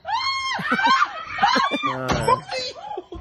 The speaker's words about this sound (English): So you were zooming down a hallway screaming like a maniac. And we have that audio here.